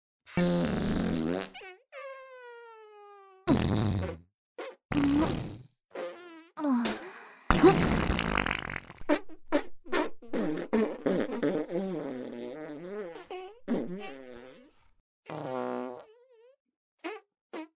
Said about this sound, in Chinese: 我们一来一回的放屁，互相闻对方的臭屁。房间里已经全是我们放出的恶臭气体，但我们两个都很喜欢这种感觉。